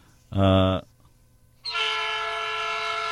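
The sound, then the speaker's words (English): A loud train horn sound effect sounds twice: a short, deep blast, a brief pause, then a longer, brighter blast that holds steady to the end, unaccompanied by voices. “That's the justice train that he'll never see.”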